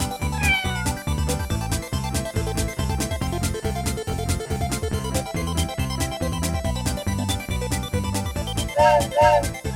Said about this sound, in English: It's just a cat. We are safe.